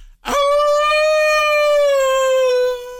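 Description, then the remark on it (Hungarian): A person imitates a wolf howl, holding a single long, steady, mournful tone for about two and a half seconds, loud, with a slight downward sag at the end. “Nagyon szomorú ez a kis farkas, de jól hozod.”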